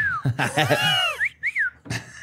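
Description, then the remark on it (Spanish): A person imitates a mongoose's whistle, voicing a few short, high chirping whistles with rising and falling pitch, mixed with bursts of squeaky vocal noise. “Oh, y lo es que esos güeyes chiflan, ¿no, güey?”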